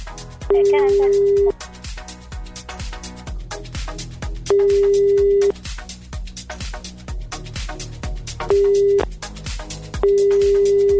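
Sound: telephone call ringing unanswered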